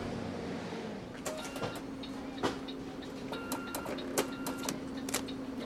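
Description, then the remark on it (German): A city bus, number 13 in Kortrijk, idles at a stop, its engine holding a steady low drone while sharp mechanical clicks and brief hissing bursts ring out at irregular intervals, with no voices. “Ja, das ist mein Bus. Da ist mein Bus, die Nummer 13.”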